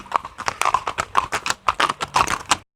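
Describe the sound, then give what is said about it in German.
Pony hooves clip-clopping at a pony farm in a quick, uneven rhythm, a steady run of sharp knocking steps lasting a few seconds, with no voices over them. “Heute im Ponyhof.”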